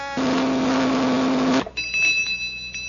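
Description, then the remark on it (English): A novelty flavor meter for testing the flavor of food, with plain ordinary cereal placed in its slot and its button pushed, gives a loud, steady electric buzz for about a second and a half, then cuts off abruptly, leaving a faint, thin high-pitched ringing tone. “It's the flavor meter for testing the flavor of food.”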